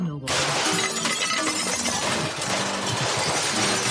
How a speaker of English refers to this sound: Hey, you just smashed my radio. You're damn right, boy.